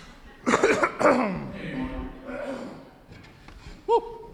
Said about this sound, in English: And I'm going to like try to clear my throat, so I'm going to turn this away.